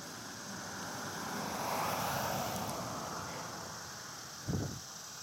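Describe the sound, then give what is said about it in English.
A vehicle passes along a road on a warm Sunday in July, its broad rushing hum swelling to a peak and then slowly fading, with a brief louder burst near the end over steady outdoor background noise. “Here comes a vehicle by the road.”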